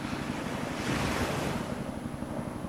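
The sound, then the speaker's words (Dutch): Steady wind buffets the microphone over a continuous wash of waves on the deck of the ship Nieuwtje Jacoba, around 7:30 on the evening of 8 August, a broad rushing roar with low rumbling gusts and no speech. “Een beetje wind door je haar heen laten waaien.”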